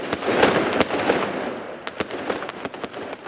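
Fireworks bursting in rapid succession, sharp crackling pops and booms layered over a continuous fizzing rumble, loud with no voices.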